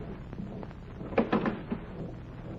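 A door is opened with a short burst of wooden clunks and rattles over about half a second, standing out from a quiet, muffled background with no voices.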